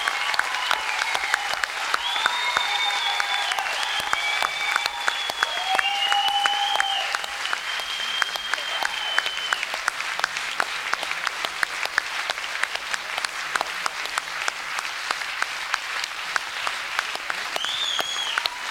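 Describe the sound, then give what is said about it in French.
A large audience claps steadily and enthusiastically for nearly twenty seconds, the dense applause loud, with a few high whistles and cheers rising above it. “Pour les applaudir.”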